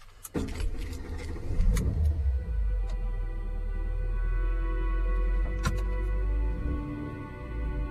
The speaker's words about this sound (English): The car starts to pull away.